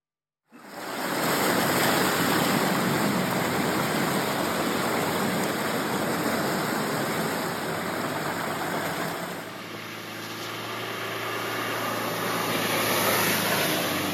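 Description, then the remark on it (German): Heavy rain pours down during the rainy season, around 7 in the morning, in a dense, continuous hiss, loud, with a low steady rumble underneath that shifts slightly partway through. No one speaks. “Während der Regenzeit, da fällt schon ganz schön viel Regen.”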